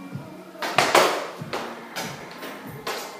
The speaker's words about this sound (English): You guys sound so mad when you put your straps down.